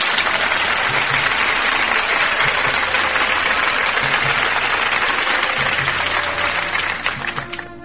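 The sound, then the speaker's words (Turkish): A burst of sustained applause after a poem is read, many hands clapping in a dense, steady roar that stays loud throughout and tapers slightly at the very end, with no voices heard. “Şöyle kocaman bir alkış gönderelim o güzel yüreğine.”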